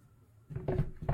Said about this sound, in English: Why are you going in that drawer? There's nothing in there.